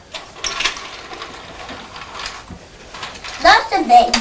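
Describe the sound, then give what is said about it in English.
A train rushes past with a steady clattering, rattling roar that swells into a louder burst near the end, where sharp high-pitched squeals cut through the noise. “They make a lot of noise when they go thundering through.”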